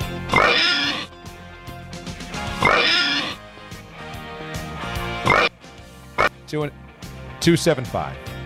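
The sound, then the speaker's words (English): A person mimics a pig, letting out a run of loud, nasal oinks and snorting grunts in uneven bursts, with a background bed of sustained tones underneath. “give me the oinks.”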